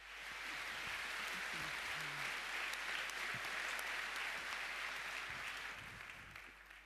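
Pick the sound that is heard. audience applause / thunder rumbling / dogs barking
audience applause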